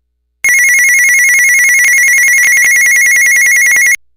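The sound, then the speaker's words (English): A loud electronic ringtone from the call button of a Midland Talker walkie-talkie, a steady high tone warbling rapidly like a phone ringing, lasting about three and a half seconds, with no talking. “Also, when you push the call button, it actually sounds like a phone.”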